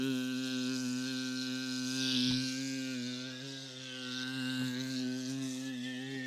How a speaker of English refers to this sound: He liked the special effect. I was moving my head the whole time. Flies buzzing around in surround sound.